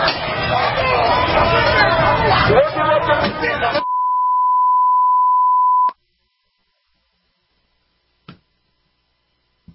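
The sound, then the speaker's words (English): A steady, loud, pure high-pitched censor bleep holds for about two seconds, cutting in right after a noisy stretch of overlapping crowd shouting and chatter from people attacking a vehicle, followed by near silence with a couple of faint clicks. “Yeah, it's just so much bleeping, we had to turn it down.”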